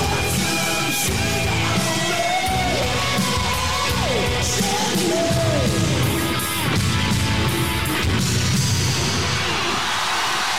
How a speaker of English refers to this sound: Oh, hear that. Thunderous applause.